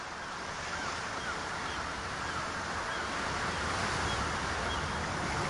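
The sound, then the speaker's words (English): Steady, broad wash of ocean waves and surf with a windy rush, continuous and fairly even in loudness throughout, with no voices; the sea where a rusty fishing trawler rocks, in the film CODA. “A rusty fishing trawler rocks with the waves.”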